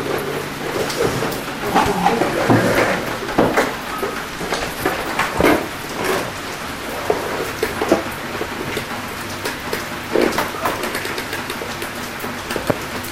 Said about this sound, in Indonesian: Ya, hujan nih, coba lihat. Hujan. Jangan ke depan ya, nanti basah. Hujan itu. Masuk. Ini hujan.